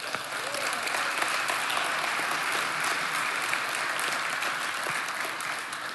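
A crowd applauds steadily for several seconds, a dense, even wash of clapping hands that stays at a constant loudness throughout with no voices standing out.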